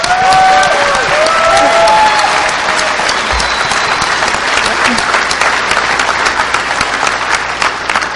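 An audience claps loudly and steadily for several seconds, a dense wash of handclaps with a few faint voices or whoops rising briefly through the noise.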